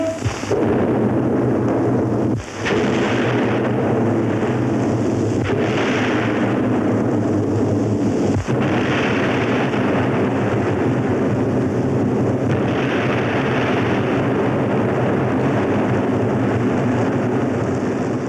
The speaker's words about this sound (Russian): Три взрыва на крутом берегу завершают картину, которую газета «Нью-Йорк Таймс» назвала лучшим звуковым советским фильмом.